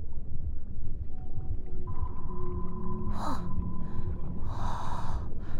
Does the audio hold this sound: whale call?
yes